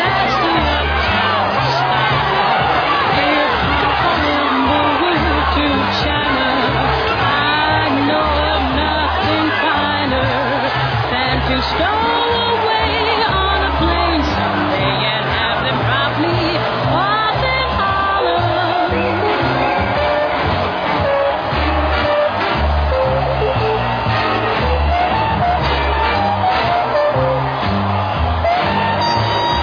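street crowd celebrating

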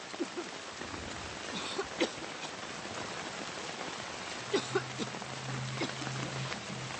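rain falling

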